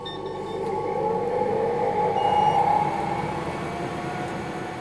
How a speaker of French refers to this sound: Je vous amène sur la découpe laser.